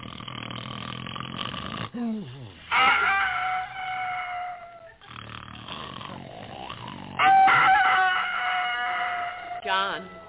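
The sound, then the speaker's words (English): A rooster on a farm crows loudly twice at 4:30 in the morning, each a long, strained cock-a-doodle-doo, with a rough, snore-like rumble and brief low sounds in between. “The rooster is crowing.”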